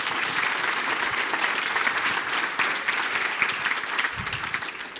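A large audience claps steadily for several seconds, a dense, continuous wash of applause at fairly close range with no speech over it.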